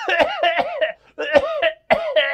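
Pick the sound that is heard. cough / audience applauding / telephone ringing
cough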